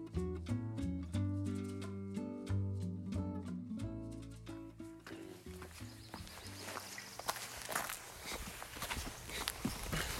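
Melodic music plays for the first half, then gives way to outdoor footsteps of a 19-year-old and his mother taking a walk: a steady walking rhythm of soft, scuffing steps over a broad, noisy background.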